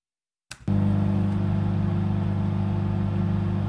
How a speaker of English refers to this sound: That was a Ford Ranger. What year? That was like 2004. Yeah. But it was in horrible condition. Right. Yeah. Needs a new fan belt.